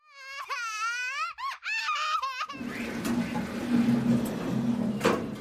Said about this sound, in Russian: Двери лифта закрывались, прерывая плач Мин Су.